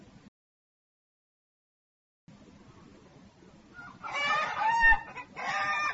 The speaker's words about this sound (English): The ducks are coming now. They're hungry. Oh no! These ducks are very naughty. Get out! Get out!